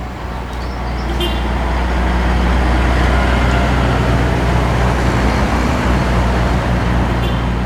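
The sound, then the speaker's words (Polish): A large truck's engine rumbles loudly and steadily, with a deep low hum and broad road noise, not fading out. “Swoje już zrobiliśmy, więc wracamy do domu.”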